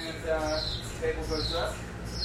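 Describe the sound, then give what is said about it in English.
A pump in an MRI room chirps in a steady, repeating rhythm as it circulates the helium that keeps the MRI scanner cool, high squeaky pulses coming roughly every second over a constant low mechanical hum. “Inside the MRI room, a pump chirps as it circulates helium that keeps the MRI cool.”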